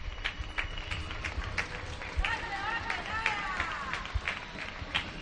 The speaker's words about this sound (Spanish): En Pamplona, lejos de menguar, cada día hay más ambiente y más aplausos aquí.